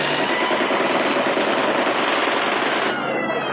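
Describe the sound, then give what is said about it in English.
A dense, unbroken roar of low-flying enemy warplanes, American Bostons, attacking vehicles, mixed with rapid, rattling machine-gun fire, loud and steady for the whole stretch, easing slightly near the end. No voices. “And the enemy planes flying low.”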